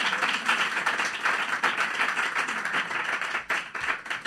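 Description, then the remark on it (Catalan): Steady audience applause for an audience member choosing a book, a dense wash of many hands clapping at a fairly even loudness throughout, with no voices standing out above it. “Un fort aplaudiment per la”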